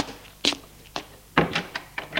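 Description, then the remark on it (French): A door being opened and shut as people leave a small single-bed bedroom: a short series of sharp clunks and clicks, with a heavier thump near the middle and lighter knocks after. “Ils sortent de la chambre.”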